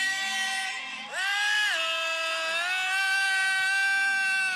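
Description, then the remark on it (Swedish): A drunk man belts out a song in a strained, piercing falsetto, sliding up into a long held note and sustaining it loudly, with no other voices. “Jag sjunger ju i falsett till typ … om …, så att jag är inte så hotfull.”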